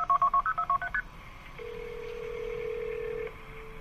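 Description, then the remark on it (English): A rapid string of about eight telephone keypad tones beeps out a number, followed by a steady ringback tone humming for nearly two seconds, with no voices. It begins a phone call from Jennifer Mee to her mother. “So let's take a look back at the initial phone call that we played at the top of the show okay.”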